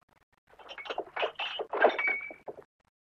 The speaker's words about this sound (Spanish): Tropieza con unas botellas.